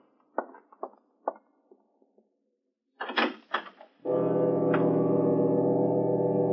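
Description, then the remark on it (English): A few clicks and knocks, then a louder rattle of the study door being opened, followed by a steady, sustained musical drone that holds to the end. “I opened the door of the study and walked in.”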